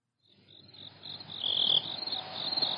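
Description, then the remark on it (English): A cricket chirps steadily in a rapid, high-pitched trill that swells gradually louder, with no one talking, set against a faint low background hum. “That cricket's fucking with me.”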